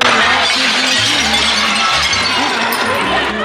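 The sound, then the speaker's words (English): Loud, continuous crashing of breaking glass as protesters smash into luxury stores in Soho, Manhattan, through the night during the George Floyd protests; dense, with shards clinking over a steady rumble and indistinct voices mixed into the commotion. “Through the night, protesters smashed into luxury stores, stealing items and clashing with police.”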